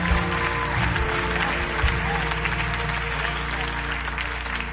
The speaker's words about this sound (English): It's getting good. It's getting good. I'm clapping.